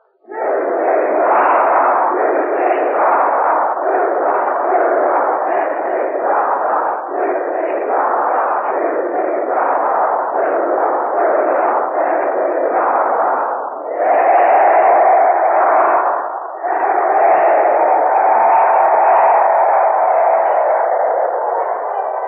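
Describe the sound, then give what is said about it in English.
A large crowd of University of Tennessee students shouts a loud, rhythmic cheer in unison, chanting in short punchy bursts before ending with two long, drawn-out yells, all through a thin, muffled old-radio sound. “The Vox Poppers who will conduct tonight's interviews have just come upon the stage, and here is a cheer from the students of the University of Tennessee.”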